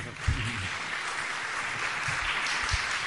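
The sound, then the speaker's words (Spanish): An audience applauds a speaker after a talk, clapping steadily, a dense wash of many hands producing a continuous crackling texture at fairly even loudness, with a few faint murmurs low underneath. “Perdón, se le puede aplaudir.”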